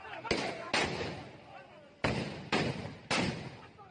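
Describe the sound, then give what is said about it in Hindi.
Five loud, sharp gunshots crack out at uneven intervals during a clash in Kasmanda, Sitapur, where bombs are also set off and police try to save themselves, each shot leaving a long echoing tail, with the murmur of voices in the background. “ये सीतापुर का कसमंडा है, गोलियां चल रही हैं, हद गोले भी चले, पुलिस अपनी जान बचाती नजर आई।”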